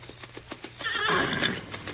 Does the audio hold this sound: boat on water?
no